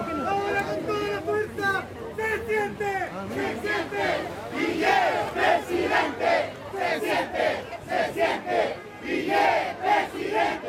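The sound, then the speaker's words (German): A small group of Nueva Mayoría coalition supporters carrying flags and flyers chants an election campaign slogan for Guillier in rhythmic unison while pushing between fish market stalls, shouted phrases repeating in loud bursts over a background of outdoor crowd noise and chatter. “Se siente, man spürt es, Guillier wird Präsident, ruft voller Optimismus das Grüppchen, das sich bewaffnet mit Flaggen und Flyern der Regierungskoalition Nueva Mayoría zwischen Marktständen vorwärts schiebt.”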